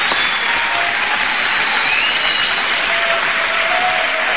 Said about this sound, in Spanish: Pueden aplaudir a Pehuajó, por lo menos. Claro que sí.